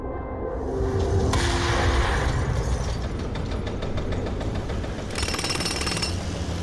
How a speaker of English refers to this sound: Suddenly there was another boom, not a silver mining boom, a Bruce Willis boom. There were jackhammers and forklifts and rubble. The good kind of rubble that told you something was changing, something was being torn down so something better could go